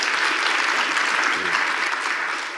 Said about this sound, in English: Give him the mic. Give him a round of applause, too. Yes, for being first.